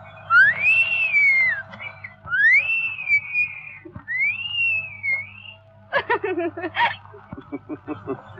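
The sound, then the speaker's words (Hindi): A person whistles three clear rising-and-falling phrases, followed by a few quick chirpy, stuttering whistled notes, with a low background hum throughout. “अगर वो कुछ बोले तो मुंह से फूल झड़ते हैं, लेकिन वो बात कम करती है, सीटी ज्यादा बजाती है।”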